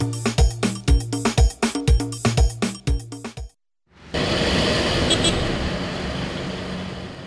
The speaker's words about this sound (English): I'm in my car.